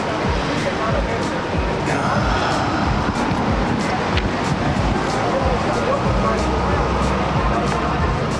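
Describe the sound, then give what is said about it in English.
A steady wash of street traffic on San Vicente, with engine rumble and tire noise from passing vehicles blending into one continuous roar, and faint indistinct voices mixed in. “Just sit out here next to the traffic on San Vicente.”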